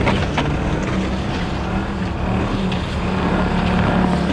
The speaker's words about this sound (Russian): С третьей попытки наши снегоходы впервые бороздят снега самой северной точки Евразийского континента.